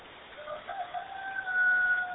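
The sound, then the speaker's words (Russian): A rooster named Petrukha crows once among his hens, a long drawn-out call that rises and holds a strained, nasal pitch for about two seconds, heard alone without any talking. “О, орёт, да? Слышно? Петруха бутует в своем гареме.”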